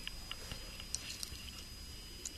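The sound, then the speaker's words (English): Someone eating a raw oyster: quiet, wet chewing and mouth sounds with a few scattered soft clicks and smacks, no one talking. “That was a particularly good oyster.”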